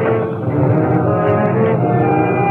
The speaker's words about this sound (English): Somebody leaving shore of Cove in motorboat. Are you sure? Yes, sir. I hear boat plainly.